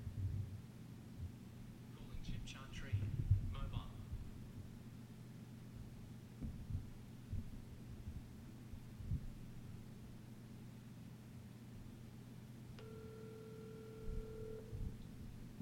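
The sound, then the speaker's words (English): Over a low background hum, the ringback tone of an outgoing call to Chip Chantry sounds once near the end, a steady two-second electronic burr heard through the phone line, fairly quiet. “Call Chip Chantry.”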